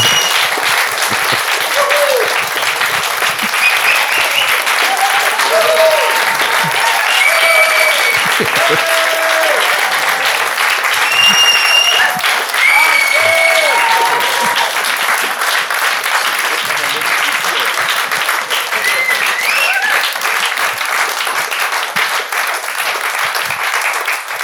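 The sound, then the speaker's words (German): Loud, sustained applause from a large crowd for an adventurer guest, a dense steady wash of clapping lasting over twenty seconds, with occasional whoops and cheers rising above it. “Und ich würde sagen, einen tosenden Applaus für unseren Abenteurer”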